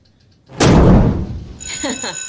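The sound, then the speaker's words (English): A sudden, loud explosion of a balloon filled with 100% hydrogen, ignited by flame from a match, erupts after a brief quiet: a booming burst with a roaring tail that fades over about a second, followed by a high tonal ringing and a voice. “This balloon, however, is filled with 100% hydrogen.”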